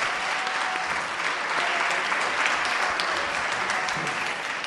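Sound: applause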